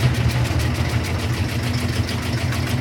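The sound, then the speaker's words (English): A washing machine runs with a steady, throbbing low rumble, much like an old truck engine idling, continuous and fairly loud throughout with no voices. “And a washing machine might sound more like an old truck engine idling.”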